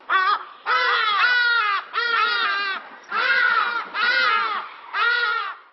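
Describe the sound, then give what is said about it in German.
Loud, harsh, wailing calls of a hadeda ibis (Bostrychia hagedash) in a run of about six drawn-out, nasal bursts separated by short pauses, each call rich in strident harmonics. “Wer hier so, naja, lieblich ruft, ist der Bostrychia hagedash aus der großen Familie der Ibisse und Löffler.”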